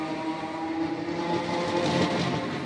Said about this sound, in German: Nein, das konnte nicht wahr sein. Das klang, als würde ein Zug abfahren.